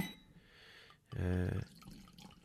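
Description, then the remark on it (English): A little drop of red wine made from Cabernet Sauvignon and Merlot is poured into a glass in a short burst of gurgling liquid with a rising, ringing tone as the glass fills, lasting about half a second amid quiet room noise. “And I'm just going to pour a little drop of it here.”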